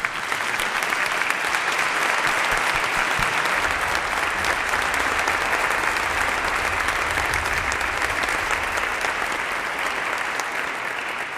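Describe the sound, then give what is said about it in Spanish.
A large audience claps steadily for about eleven seconds for the musicians of a music school and band, a dense, sustained wash of applause that stays loud throughout and eases off only slightly at the end, with no talking over it. “Con que me gustaría que los diésemos un fuerte aplauso porque están haciendo una labor enorme.”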